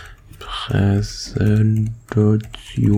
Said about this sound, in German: Ich hoffe, man hört quasi gerade keine beschissenen Nebengeräusche. Tja, ich glaube, den Stuhl oder Tastaturgedüttel wird man jetzt wohl oder übel hören.